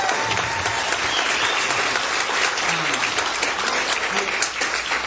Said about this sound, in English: So please give them one more round of applause. Thank you.